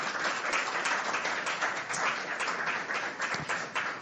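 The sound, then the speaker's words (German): An audience applauds steadily throughout, welcoming a speaker at an event marking 15-plus years of European Digital Rights (EDRi), a dense wash of many hands clapping at once with no pauses, sustained at an even loudness. “Ich darf recht herzlich mit einem kräftigen Applaus begrüßen”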